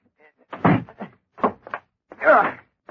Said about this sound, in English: Close the door behind us